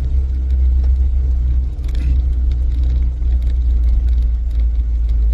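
Steady, heavy low rumble of a car moving along a road, with continuous engine and tire drone and faint higher whooshes and rattles. No one speaks.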